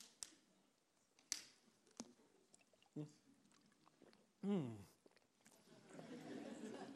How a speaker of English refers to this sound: I'll take the opportunity to drink some water.